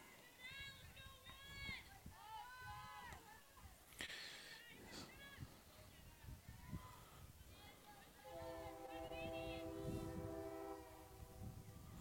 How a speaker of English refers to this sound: She's got a train going in the background. It just wouldn't be Port Edwards, though, hearing a train.